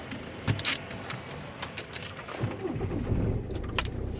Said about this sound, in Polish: Chyba o niczym nie zapomniałem. Samochód, GPS, adres, jedziemy.